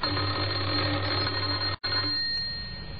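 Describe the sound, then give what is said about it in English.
A doorbell at a house in Oxford, pressed twice by a man, rings with a steady, loud electric jangle, cuts off for a split second, then rings again and slowly softens toward the end. No one speaks. “He had a worried expression on his face as he walked up the few steps and pressed the doorbell. Again he tried.”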